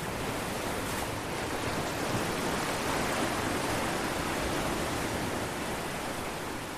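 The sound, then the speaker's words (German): A steady, broad wash of surf rolls onto a beach, a dense continuous hiss of breaking water with no distinct individual waves and no voices. “Wie das Geräusch der Wellen, die an den Strand rollen.”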